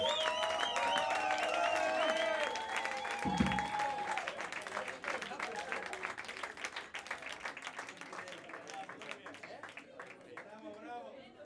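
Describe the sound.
An audience applauds loudly and steadily for a guitarist of a band who has come with his acoustic guitar, with dense clapping alongside some whoops and voices. The applause gradually thins and fades toward the end.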